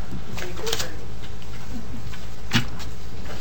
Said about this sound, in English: Turning my paper over.